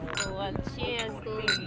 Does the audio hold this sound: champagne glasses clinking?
yes